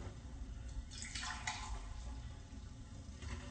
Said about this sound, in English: Okay, now I'm going to pour in, this is 2 cups of water. Remember, we've got 5 cups there.